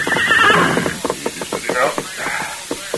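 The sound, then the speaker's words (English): The horse Silver, left a short distance away, whinnies loudly in reply to its rider's call, a shrill descending neigh in the first second, followed by snorting and breathy rhythmic sounds with faint hoof-like clatter. “Hey, who you calling? My horse.”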